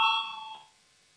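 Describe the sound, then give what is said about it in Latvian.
A single bright electronic bell rings for about half a second in a parliamentary chamber, called for by the chair before deputies vote on a committee proposal. It fades quickly into near silence, and no one speaks. “Lūdzu zvanu.”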